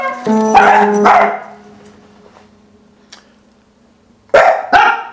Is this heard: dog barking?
yes